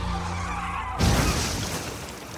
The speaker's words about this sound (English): The engine roars to life, and the truck peels out.